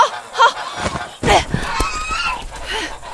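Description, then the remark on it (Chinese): Several loud, nasal honks from a large goose, which someone is clutching and being told to throw out, burst out in quick, irregular succession, with a noisy outdoor background and some overlapping commotion. “快点把大鹅扔出去了，别死抱着了！”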